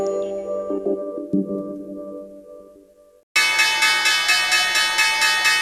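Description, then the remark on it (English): A soft, fading tonal hum gives way abruptly to the loud, rapid, continuous clatter of the New York Stock Exchange closing bell on Wall Street, signalling the end of the trading day, its strokes pulsing evenly without pause until the end. “The closing bell at the New York Stock Exchange, signalling the end of an historic day on Wall Street, as concern grows across global markets about the coronavirus pandemic.”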